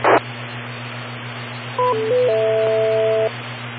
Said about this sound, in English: just a bunch of noise crackling away in the background. You know, as the signal strength gets less and less, the percentage of noise goes up and audio goes down